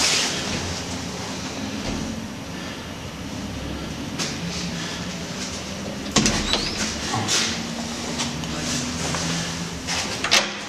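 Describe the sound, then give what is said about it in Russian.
A loose, unclosed door of a house in the Primorsky district knocks and rattles against a steady background rumble, then is slammed shut with a sharp bang partway through, followed by a few lighter clunks. “Такое ощущение, что дверь еще не закрыта, болтается.”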